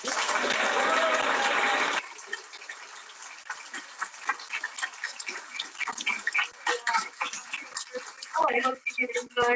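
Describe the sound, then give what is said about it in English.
A burst of dense applause opens, then thins into scattered, uneven claps from a modest crowd, with a voice briefly speaking near the end. “Please, big round of applause.”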